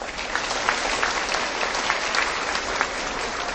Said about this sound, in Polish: Oaza Dzieci Bożych z Ryglic. Gorące brawa.